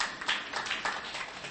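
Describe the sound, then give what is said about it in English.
Scattered audience clapping, fairly faint, a dense patter of many hands in brief uneven swells lasting under two seconds, with no voices over it. “You can clap if you want to clap.”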